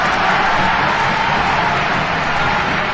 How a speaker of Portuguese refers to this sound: Palmas, aplausos, porque foi um show ao vivo.